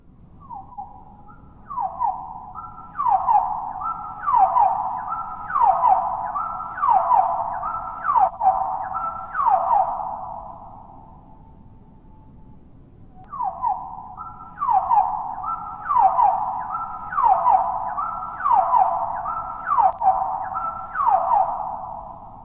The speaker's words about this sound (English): This is an oven bird, a secretive little bird you'll hear far more often than you see. They're active around here from about mid-May to early July when they fall silent. This is the oven bird at one-quarter speed.